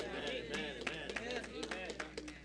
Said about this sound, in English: That was a weak applause. Just only a few folk knew that, obviously.